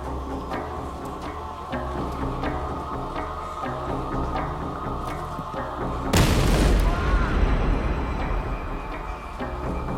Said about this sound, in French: L'explosion le blessa gravement. Ses doigts furent déchiquetés.